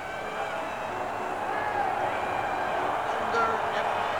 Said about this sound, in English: Hey, look at the crowd starting to yell. I thought they were loud before, but now just listen to them. They see that the ball is up there and it's starting to move.